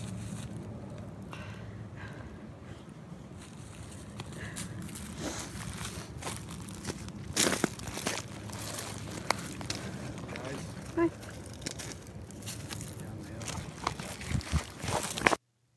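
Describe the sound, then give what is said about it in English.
Irregular footsteps crunch over loose rocks on a hillside path, the gritty steps growing sharper toward the end, with indistinct voices murmuring in the background as people debate how to get down the hill. “It's just, there's a rock crunching, but they're trying to debate how to get down the thing, down the hill.”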